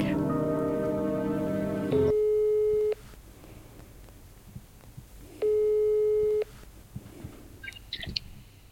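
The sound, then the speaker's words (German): A phone line rings out twice while calling a random number, two steady electronic ringback tones about a second long separated by a few seconds of quiet line noise, preceded by a brief harmonic buzz. “Okay, also wir rufen jetzt random bei dieser Nummer an.”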